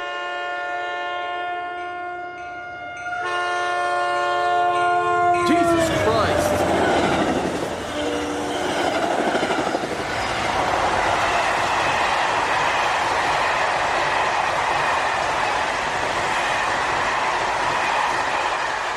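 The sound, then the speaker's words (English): A train roars past very close to tents pitched by the tracks at 1 o'clock at night, opening with a loud, sustained horn blast that gives way to a dense, rumbling rush of cars and clattering wheels. A startled voice shouts briefly over the noise. “Everything seemed fine until 1 o'clock in the morning when a train zoomed by.”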